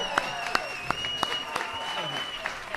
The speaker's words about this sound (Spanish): ¡Eso merece un aplauso! ¡Se merece un aplauso!